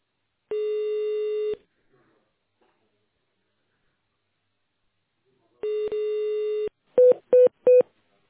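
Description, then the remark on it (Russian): Telephone tone dialing on a call to the automated line of the Zhilstroy design and construction bureau, after a prompt to dial an employee's extension in tone mode: a long steady electronic tone, a pause, another long tone, then three short, quick keypad beeps at a similar mid pitch. No one speaks. “Если вы знаете добавочный номер сотрудника, наберите его в тоновом режиме или дождитесь ответа секретаря.”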